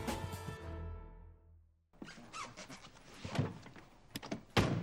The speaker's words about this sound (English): Helps if you open the door.